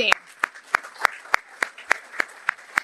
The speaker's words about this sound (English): And in fact, thank you to all of you. I mean, this room. Oh, let's clap.